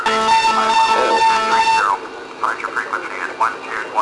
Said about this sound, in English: Why are we getting this beep?